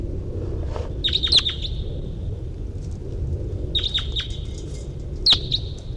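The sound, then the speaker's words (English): Wild birds sing in short bursts of high, sharp chirps, three clusters spaced a couple of seconds apart, over a steady low rumbling background hum. “There. Wild birds around.”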